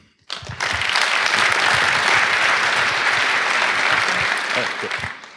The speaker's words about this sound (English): By the way, that's the best pronunciation of my name ever by foreign people. yeah, clap for that.